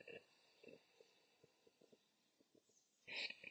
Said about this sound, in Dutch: En dan adem je uit door de mond. En dan blaas je de lucht langzaam uit. Dus je hebt je lippen bij elkaar en je blaast de adem langzaam uit.